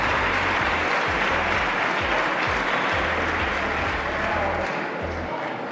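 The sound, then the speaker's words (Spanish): Steady, loud applause from a large crowd in a big hall, a dense wash of clapping that holds evenly from start to finish, with faint voices mixed underneath. “En aquests aplaudiments és quan ha dit que se joden.”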